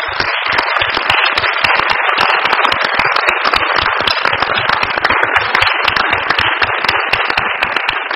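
Sustained, loud applause from a large crowd, dense overlapping hand claps forming a steady roar that holds at full strength for the whole stretch without any voices.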